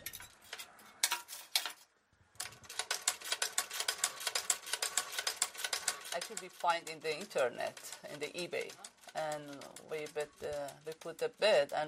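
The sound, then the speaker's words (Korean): A 150-year-old manual treadle sewing machine, foot-powered rather than electric, runs with a fast, steady mechanical clatter for a few seconds, briefly pausing before it, then a person starts talking as the stitching stops. “전기가 아니라 발로 움직이는 수동 재봉틀이죠.”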